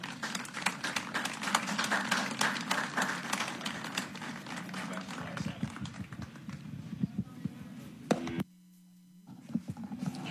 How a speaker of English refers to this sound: Let's all give them a round of applause.